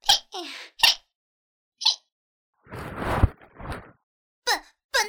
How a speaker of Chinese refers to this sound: 什么叫做连打嗝声音都那么可爱？